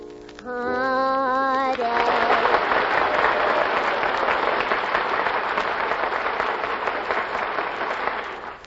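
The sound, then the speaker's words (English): A brief rising tonal sound gives way to a sustained burst of studio audience applause for the Furpo sisters, the audience voting for their favorite contestant; dense and steady clapping that stays loud for several seconds before easing slightly at the end. “Now, as I put my hand over each contestant's head, the studio audience will applaud, indicating their favorites.”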